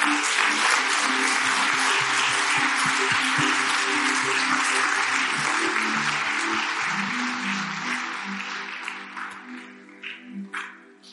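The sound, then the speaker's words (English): A church audience claps and applauds steadily, a dense, sustained wash of many hands that gradually thins and fades toward the end, with a low murmur and a few scattered voices underneath. “Now, the reason why you're clapping is not because of the preacher.”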